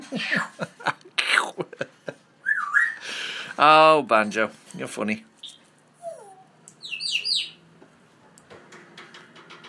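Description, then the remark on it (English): A pet parrot lets out a run of varied whistles and chirps: a rising whistle, a stack of harmonic squawk-like notes, then high bright tweets, mixed with a person's chuckling speech. “I don't even know what that bird's doing right now. She's going... been random. Parrots do that.”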